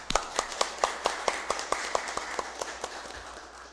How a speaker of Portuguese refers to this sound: Em memória ao nosso amigo Renato Barroso e toda a família, eu peço aqui uma salva de palmas para o nosso amigo Renato Barroso.